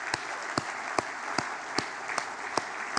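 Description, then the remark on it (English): Men in a church audience in South Florida clap for the women in the room: a dense wash of many hands with a few sharper claps standing out at a regular pace, moderately loud and without voices. “So men, why don't you clap for the women in this room?”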